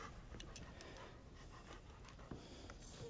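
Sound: dog panting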